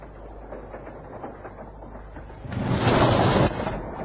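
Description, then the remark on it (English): Steady low rumble of a passenger train running, heard from inside an otherwise empty compartment, with a rattling clatter that swells louder for about a second before settling back. No one speaks. “Oh, good gracious, I didn't know you were on this train.”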